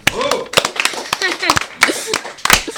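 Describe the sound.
Irregular hand claps ring out in scattered bursts while several voices call and chatter over them, sounding like a small group applauding rather than a steady roar; applause for the candidates of a school Web Radio.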